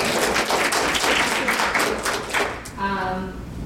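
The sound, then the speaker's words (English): A crowd claps in a dense, steady round of applause for a few seconds for the 2007-2008 Missouri Teacher of the Year being introduced, fading as a single voice begins speaking over the last moments. “You know, actually, I think that does deserve a round of applause.”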